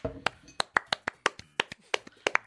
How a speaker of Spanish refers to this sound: Un aplauso para los psicólogos.